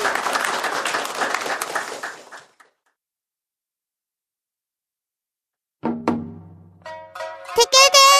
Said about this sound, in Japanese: うまくできたら、拍手、パチパチしてください。パチパチ。